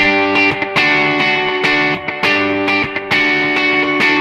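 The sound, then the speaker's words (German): An electric guitar plays dense, harmonically rich chords through a Space Echo delay, with repeating echoes trailing each strum, giving a bright, washy tape-delay texture. Loud, with no talking. “Ich gehe mal auf ein Space Echo, das hat ein bisschen mehr Höhen.”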